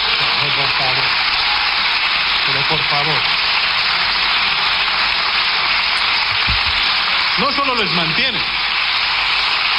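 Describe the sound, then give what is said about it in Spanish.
Dense, steady applause from a large group of parliament members fills the whole clip with an even hiss-like clatter, while a few short spoken phrases cut through the clapping. “Al conseller de Galicia, al que ustedes estuvieron manteniendo durante 2 meses sabiendo que había una acusación de agresión sexual, y además despiden aplausos, como ha dicho el portavoz del Grupo Parlamentario Socialista.”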